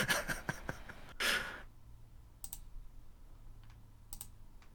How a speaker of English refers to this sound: I'm typing with one hand. I have to hold the microphone in the other one.